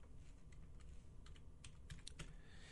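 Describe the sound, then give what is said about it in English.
Slow, uneven clicking of a computer keyboard being typed on with one finger, about ten separate keystrokes spaced irregularly, fairly quiet over a low background rumble, with no talking. “pardon my typing with one finger there”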